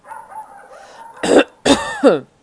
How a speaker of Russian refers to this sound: Хозяин кашлянул, чтобы придать голосу больше твердости.